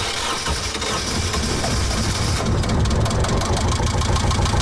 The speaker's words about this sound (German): Er ruckelt und schnauft ein wenig, doch dieser 18 PS starke Motor, Baujahr 1975, wird die Segeljacht Timpe T aus dem Hafen hinaus bewegen.